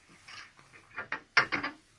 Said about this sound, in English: I'll unlock the cell door.